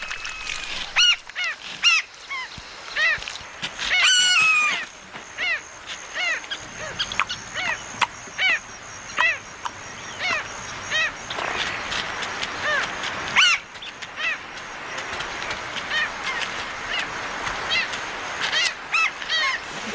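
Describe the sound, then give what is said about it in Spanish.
A busy flock of hungry waterbirds feeding in the shallow channels of a shrinking river as summer approaches calls out continuously, with overlapping honks and squawks from several birds, forming a noisy, steady chorus with no talking. “Esos canales poco profundos ofrecen un festín a varias aves hambrientas.”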